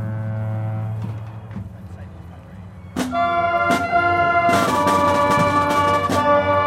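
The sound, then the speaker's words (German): A deep, steady foghorn drone hums low at the start by the Golden Gate Bridge in fog over the water, then bright, sustained instrumental tones from about 800 musicians spread in groups across Crissy Field burst in and grow louder, layering harmonics over the fading horn, in a work by composer Lisa Bielawa. “Zwischendurch ertönt das Nebelhorn im Hintergrund.”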